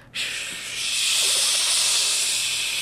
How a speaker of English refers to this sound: So it sounds like when you turn your radio, there's no radio station, you just have only noise, like white noise. And then I heard the amplitude increase, the volume.